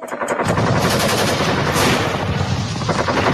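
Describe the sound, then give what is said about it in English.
Rapid, continuous bursts of machine gun and cannon fire as Israeli jets and motor torpedo boats strafe a ship's decks, loud and dense throughout, with sharp repeated cracks blending into a chaotic barrage and no voices. “They drop napalm and strafe its decks with rockets, cannon fire, and armor-piercing rounds before trying to sink it with torpedoes.”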